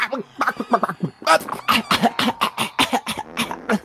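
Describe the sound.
A voice imitates harsh coughing and gasping, a rapid series of loud raspy bursts with wheezy breaths between them, continuous for a few seconds.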